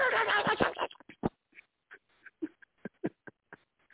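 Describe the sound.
A person imitates house dogs barking when the doorbell rings: a frantic burst of overlapping yaps, then about ten short, sharp barks in an uneven rhythm, moderately loud, with no other speech.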